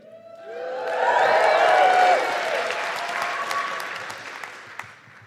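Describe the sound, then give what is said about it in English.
A crowd bursts into loud applause and cheering, with whoops and shouts rising over dense clapping that peaks early, then stays steady before tapering slightly toward the end. “Don't cheer that.”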